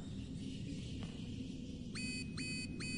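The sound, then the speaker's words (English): An alarm system set up in the cave and hooked into the prison and other places goes off over a steady low rumble: three quick, bright, rising tonal chirps repeating in an even rhythm, starting partway through and loud against the background. “It's an alarm system I set up.”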